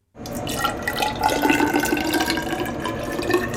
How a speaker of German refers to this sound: Ich fülle dann jetzt 200 Milliliter von der unfiltrierten Probe in ein Glasgefäß ab. Dafür benutze ich einen Messzylinder.